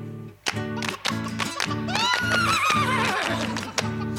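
A horse neighs in a long, quavering whinny that rises and trails off over a bouncy musical backing with a steady, evenly spaced beat.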